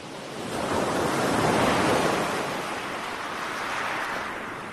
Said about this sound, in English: To start this episode, I thought we would take a brief dip into the relaxing waves of Shale Bay on the Isle of Wight, a recording recently shared by the British Library Sound Archive team